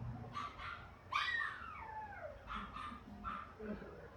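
A chronically stressed female shelter dog, frozen in place and not taking treats, whimpers and whines anxiously, with one long drawn-out whine that slides downward in pitch, surrounded by shorter high yips, against a quiet background.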